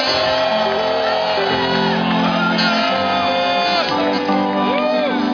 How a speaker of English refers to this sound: I want, even if you're of good cheer here, give the Lord a shout.